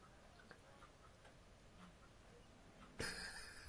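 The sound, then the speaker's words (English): Soft, steady clock ticks repeat at an even pace against a quiet background, then a louder, bright tonal sound swells in near the end. “I love the ticking.”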